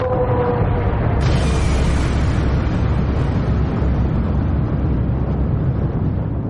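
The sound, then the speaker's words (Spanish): A huge, roaring supernova explosion effect, a star's outer layers crashing into its collapsed iron core: a deep rumbling blast with a sharp crackling burst early on, then a sustained thunderous roar that slowly subsides, loud and continuous throughout. “Las capas exteriores chocan contra él y se genera una enorme explosión.”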